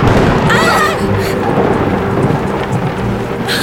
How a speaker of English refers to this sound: Scared me. That lightning was close.